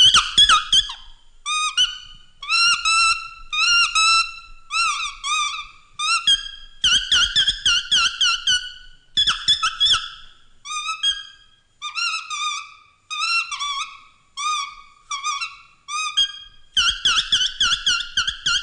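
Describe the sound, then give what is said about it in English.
A nightingale's song imitated by blowing on a common leaf: rapid, reedy warbling trills and chirps in quick bursts with brief pauses, fairly loud, continuing with no talking. “A nightingale.”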